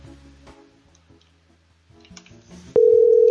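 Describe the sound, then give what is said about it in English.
A loud, steady electronic telephone tone cuts in abruptly near the end after a stretch of faint, low background murmur. It is the ringing tone of a call being redialed after reaching a voicemail that was not set up. “Sorry, the person you were trying to reach has a voicemail. Yeah, not set up.”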